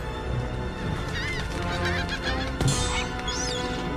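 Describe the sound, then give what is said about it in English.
A flock of gulls calls over and over as it takes off into the sky above a city in strong wind, as a dark cloud sweeps in from the sea: shrill cries overlapping in a busy, continuous chorus with a sharp burst partway through and steady background noise beneath. “A flock of gulls make a break for the sky.”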